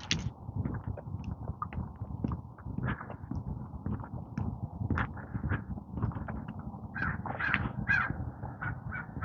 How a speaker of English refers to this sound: Now there's a murder of crows. 1, 2, 3, 4, 5, 6, 7, 8, 9, 10, 11. Baker's dozen.